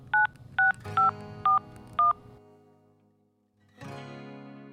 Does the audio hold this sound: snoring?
no